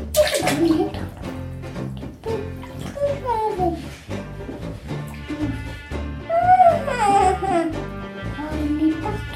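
A young child babbles and squeals in a bathtub, with water sloshing and splashing in irregular bursts under the high, sing-song voice, steady and fairly loud throughout.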